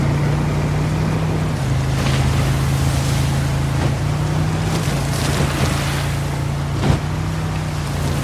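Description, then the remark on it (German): A motorboat crossing a raging sea to an island: its steady engine drones low beneath rushing, churning water and crashing waves, with gusts of wind and occasional louder splashes, continuous and fairly loud throughout. “Die See tobte, als Yara und Abby mit dem Boot zur Insel fuhren.”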